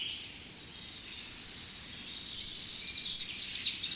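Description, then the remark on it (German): A delicate, high-pitched European robin song trickles along in the background, a continuous run of thin, warbling notes and quick trills over a soft, steady hiss. No one speaks. “Ach, schön zartes Rotkehlchen im Hintergrund.”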